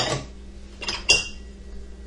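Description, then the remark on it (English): Dishes being unloaded from a dishwasher: a few clattering knocks of dishware and cutlery, ending in a bright ringing clink that lingers briefly, with no one speaking. “If I keep unloading, I'll remember the dishwasher.”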